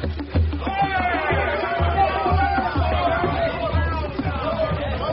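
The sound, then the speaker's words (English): A lively crowd of spectators on a clifftop murmurs and chatters all at once as a flotilla puts to sea, many overlapping voices forming a steady hubbub with no single speaker standing out. “A thrill of excitement ripples through the crowd as the flotilla puts to sea.”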